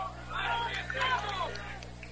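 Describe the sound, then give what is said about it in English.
Crowd noise from the Horicon crowd at a softball game: a steady wash of many overlapping voices, cheering and chattering at a moderate level for about two seconds, with a low constant hum underneath. “Heard the Horicon crowd.”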